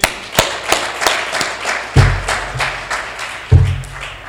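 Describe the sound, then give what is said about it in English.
Audience applause welcoming a speaker: a dense wash of clapping with sharp individual claps popping out in an uneven rhythm, plus a couple of low thumps. The applause stays loud and steady throughout, with no talking. “With an incredible round of applause”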